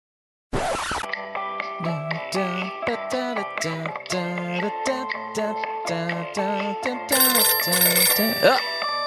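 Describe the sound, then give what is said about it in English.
A temp phone rings with a melodic electronic ringtone, a steady run of short bright notes repeating for several seconds, loud, right after a brief burst of noise. “It's the temp phone. Everybody be quiet.”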